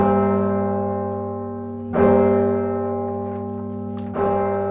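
Bells of a grand 61-bell carillon near the top of a 307-foot clock tower on the University of California, Berkeley campus, played by the university carillonist, ring out with rich, sustained tones, two fresh strikes landing about two seconds apart over the lingering hum of earlier notes, fairly loud, with no voices.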